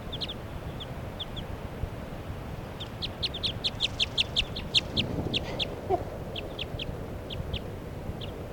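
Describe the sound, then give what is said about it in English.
A light-colored female wild bird, perched right next to Forty's cage, calls with short, high, sharp chirps, sparse at first, then quickening into a rapid rhythmic burst before tapering off, over a low steady background rumble. She calls in response to bird 3. “She's calling in response to bird 3 at 7.”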